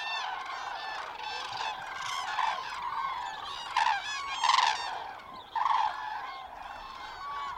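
A dense chorus of cranes calling, loud overlapping bugling and trumpeting cries that continue without pause, with a few louder bursts standing out near the end.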